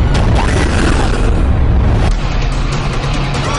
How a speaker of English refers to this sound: U.S. Ambassador Arnold Regis was assassinated this morning. Someone blew up their boat.